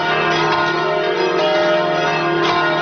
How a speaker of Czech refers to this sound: Ja sam zvona to veče zapravo čuo po prvi put, jer tada ih slušam i čujem drugačije, bilo ona sa katoličkog ili pravoslavnog hrama. Iako muzičar, ja vam razliku između ovih zvona ne znam reći.